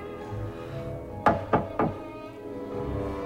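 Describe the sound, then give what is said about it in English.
Three quick, sharp knocks on a clear glass floor covering a deep pit, evenly spaced, sounding over a low, steady background hum with no talking. “He knocks on the clear glass floor.”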